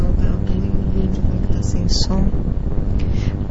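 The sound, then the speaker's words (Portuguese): A motorcycle engine drones loudly and steadily, its low rumble filling the whole stretch, with a brief rising whine midway as it goes by. “Que a moto sempre aparece, hein?”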